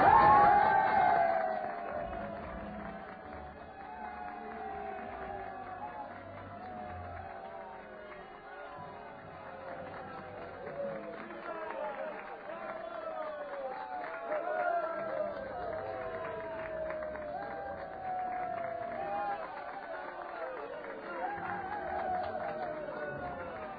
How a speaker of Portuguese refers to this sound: A plateia vibra quando morrem na arena os primeiros cocheiros e cavalos, vítimas de acidentes fatais.